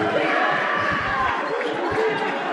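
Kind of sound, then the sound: crowd, basketball crowd cheering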